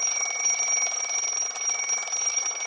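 An alarm clock rings continuously, a loud, bright metallic ringing with steady high-pitched tones and a rapid rattling texture, sustained without pause and with no voices.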